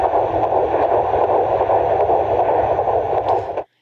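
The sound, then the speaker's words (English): A rapid heartbeat picked up on a monitor, a fast, steady whooshing pulse in the 150s beats per minute under a constant hiss, loud with no talking, cutting off abruptly at the end. “You want to hear the heartbeat again? Okay. Heartbeat is in the 150s, which is normal.”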